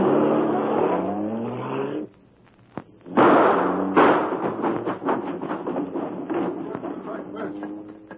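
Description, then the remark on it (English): A car engine revs hard and accelerates, then a loud burst of cracking, splintering impacts and clatter follows as the car smashes straight through a fence at the rear, with debris rattling afterward. “We're going straight through that fence in the rear.”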